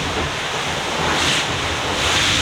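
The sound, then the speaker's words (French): A boat's hull slaps lightly against small wavelets as the boat accelerates in the waves, amid a steady rush of water and wind noise that swells slightly a couple of times. No voices. “Et qui tape un peu sur les petites vaguelettes.”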